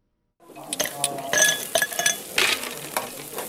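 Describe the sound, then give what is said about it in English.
Ice cubes clink into a glass to cool a drink on a hot Sunday afternoon in a suburb north of Cape Town, a quick, irregular run of bright, ringing taps over the steady sizzling hiss of meat on a barbecue. “Meat sizzles on the barbecue, ice hits a glass to cool a drink.”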